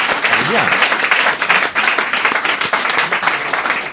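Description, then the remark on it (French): An audience applauds steadily for several seconds, dense overlapping claps forming a loud, even wash, with a brief voice rising faintly underneath near the start. “On applaudit.”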